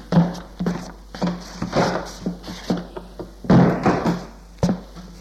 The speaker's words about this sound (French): Et il entend le déclic de la targette.